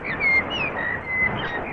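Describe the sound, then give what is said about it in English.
A blackbird sings a few thin, fluting whistled notes in midsummer in Kew Gardens, heard over a steady rasping wash of background noise that fills most of the short clip. “That's a blackbird in midsummer in Kew Gardens, sending you best wishes for you in the middle of your winter.”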